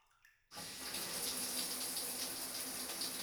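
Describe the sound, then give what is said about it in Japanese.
After a brief quiet moment, a shower starts abruptly and keeps pouring a steady stream with a broad, hissing spray, rinsing conditioner out of hair. “じゃあ、リンスを流しちゃうね。”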